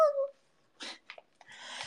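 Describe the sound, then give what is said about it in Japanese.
A cat lets out a brief, clear meow-like cry, followed after a pause by soft breathy rustles and shuffling noises. “マジで猫目の前にすると壊れるんだけど。”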